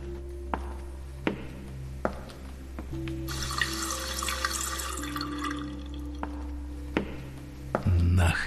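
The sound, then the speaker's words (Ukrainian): A tap runs briefly, a couple of seconds of steady splashing water, framed by scattered clinks and knocks over a low constant hum. “Я хочу з-під крана.”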